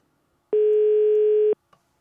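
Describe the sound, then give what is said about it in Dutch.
A single steady electronic telephone ringback tone of a call to a listener somewhere in the Netherlands sounds for about one second, clear and fairly loud, then stops, followed by a faint brief click. “Ja, en de telefoon gaat op dit moment over ergens in Nederland.”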